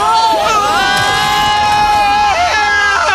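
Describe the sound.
Several voices yell loudly together in long, sustained cries as part of a game's pretend time travel back to 1996, their pitch sliding up and down and overlapping, with the shouting running unbroken from start to finish.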